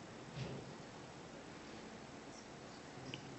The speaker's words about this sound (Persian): اگه خدا بخواد این کارو بکنه ما جایی چند ثانیه یه بارون اینجوری میفرسته؟ چند ثانیه؟ هیچ کس زنده نمیمونه.